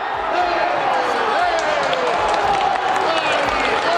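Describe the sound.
The Italian Chamber of Deputies fills with steady applause and cheering during a vote, while Lega deputy Paola Goisis is speaking, set off by Italy's goal making it 1-2: a dense, continuous roar of many hands and voices that holds at the same loud level throughout.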